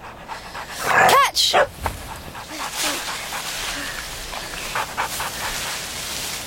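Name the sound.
dog panting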